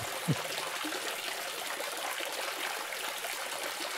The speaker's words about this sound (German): Und wir hören Wasser und sehen gleich einen großen Brunnen. Und ich erzähle was zu diesem Brunnen. Der steht in Rom auf dem Petersplatz.